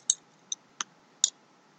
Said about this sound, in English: You hear that soft metal sound of the clasp clicking into place.